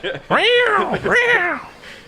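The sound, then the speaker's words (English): A person vocally imitates cats fighting, letting out two drawn-out, wavering yowls back to back, loud, with a brief dip between them. “I'm like cats fighting.”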